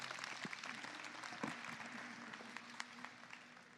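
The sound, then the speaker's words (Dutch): A talk show audience on a Sunday applauds alderman Kirsten de Vrede after she opens the show: a dense wash of many hands clapping at a fairly loud, even level with scattered sharper claps throughout and no one speaking. “Mag ik nog één keer een applaus voor onze wethouder Kirsten de Vrede.”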